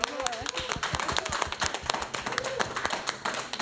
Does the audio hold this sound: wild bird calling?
no